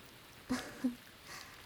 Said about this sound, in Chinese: 下雨天真的十分绝望啊，总觉得自己可能就再也见不到太阳了。听见打雷下雨，依旧会因为回忆起那些而不自主的颤抖呢。